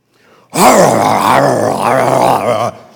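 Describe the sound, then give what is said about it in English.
A person's voice imitates a dogfight between a St. Bernard and another dog with one loud, harsh, snarling growl that rises and wavers for about two seconds, with no other sound around it. “wandered into our yard one day, and I heard this horrible dogfight going on.”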